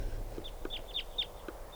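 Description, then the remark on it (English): Type 2 crossbill flight calls, with about 20 crossbills around in the trees: a handful of short, sharp, high-pitched kip notes in an irregular series, clear above a low steady rumble, with no voices. “The trees are full of crossbills now.”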